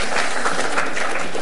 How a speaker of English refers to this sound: Thank you. Well done. And applause.